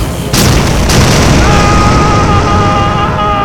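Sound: explosion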